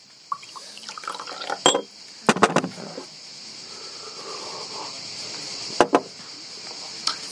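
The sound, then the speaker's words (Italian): Water is poured into a glass, with a soft liquid trickle punctuated by a few sharp glassy clinks and knocks; no one speaks. “Un po' d'acqua.”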